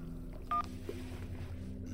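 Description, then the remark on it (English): A single short dual-tone beep from a cell phone keypad rings out once, fairly clear, over a low, steady background hum. No one speaks. “I nodded, pulled out my cell.”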